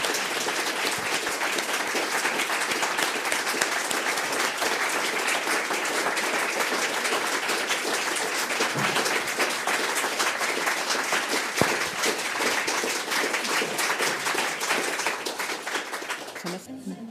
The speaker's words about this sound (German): Und jetzt aber noch einmal vielen herzlichen Dank und großen Applaus.